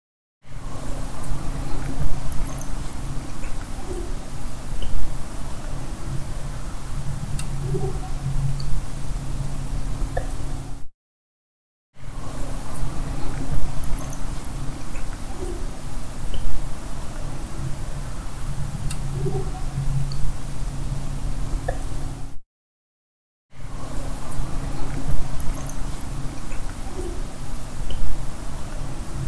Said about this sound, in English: We did capture something while we were out there that was much lower than the other screech owls. We wondered if it was something like trying to mimic screech owls.